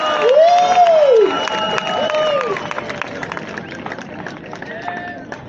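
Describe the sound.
A crowd applauds and cheers, with a loud rising-and-falling whoop at the start over steady clapping and voices, then the noise eases slightly and keeps going.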